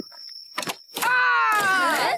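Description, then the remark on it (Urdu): In the Ghulam Rasool 3D animated cartoon, a door is flung open roughly by Bablu Bhai: a quick rattle, then a loud thump followed by long, wavering creaks and groans of hinges, over a faint steady high-pitched whine. “آپ کو دروازہ آرام سے کھولنا چاہیے تھا.”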